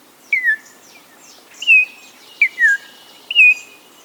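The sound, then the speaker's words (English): A rich, whistled Altamira oriole song of clear, slurred notes delivered in short phrases with pauses between, loud over a soft background hiss of insects, from a wooded thicket along the lower Rio Grande River. “From a wooded thicket along the lower Rio Grande River comes a rich, whistled song.”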